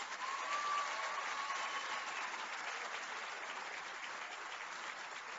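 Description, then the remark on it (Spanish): An audience claps steadily at a ceremony handing over homes to families, a dense wash of many hands at a fairly even volume that eases slightly toward the end, with no voices on top. “Esta buena nueva bien merece un fuerte aplauso.”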